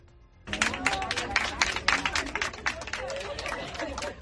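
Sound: applause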